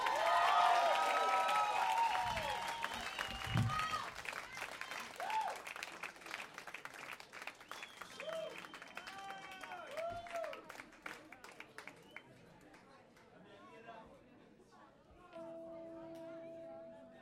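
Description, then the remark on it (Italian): A crowd applauds the bass player loudly and steadily, with cheers and whoops rising above the clapping. The applause thins out toward the end, and a sustained tone sounds under the fading claps. “applauso al basso ….”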